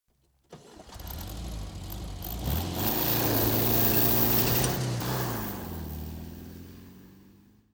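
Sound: car engine starting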